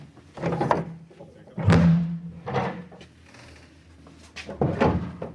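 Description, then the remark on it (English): The first door at the bottom of a staircase beneath a lecture theatre, on the way to a vault, being opened: a few heavy clunks and thuds spread over several seconds, one with a short low creak. “So let's head down the stairs. It's the first door.”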